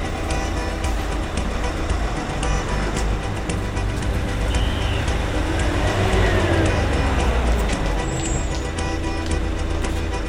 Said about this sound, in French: Attention sur voie neuve, le train va partir, veuillez monter en voiture et ne pas gêner la fermeture des portes sur voie neuve, attention au départ.